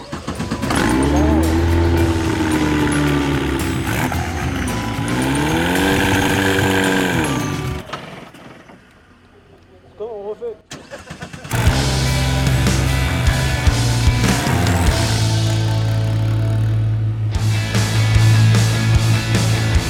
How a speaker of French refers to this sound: Ok, j'entends rien avec le moteur.